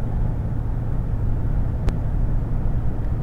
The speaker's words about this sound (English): Alright, truck.